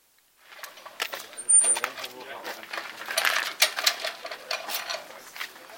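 Metallic jingling and clinking of keys in a series of quick rattles and scrapes lasting several seconds, as a key is pulled from a bag and a park gate is unlocked just after 4 o'clock, between night and day.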